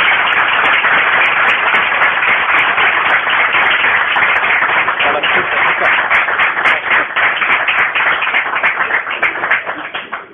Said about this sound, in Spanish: Y que yo creo que se ha ganado un aplauso, pero gracias, gracias.